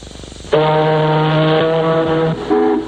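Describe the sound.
A deep, loud ocean liner foghorn blast holds steady for about two seconds, then a short second blast follows after a brief pause. There is no talking.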